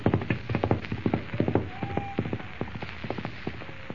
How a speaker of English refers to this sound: Bound to the saddle, Jimmy cries out in terror as the wild, unbroken horse gallops into the darkness.